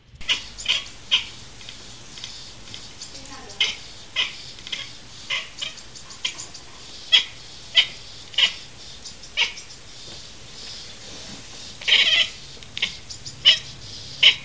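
A cat chatters in a run of short, sharp clicking bursts, some doubled, repeating irregularly with quiet pauses between, and one longer rattling burst near the end.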